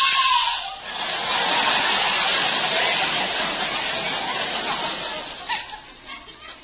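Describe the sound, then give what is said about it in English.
A woman lets out a long, shrill, raspy scream from a window across the street. The scream holds at full strength for several seconds before wavering and trailing off, with no other voices. “Suddenly I hear a woman scream.”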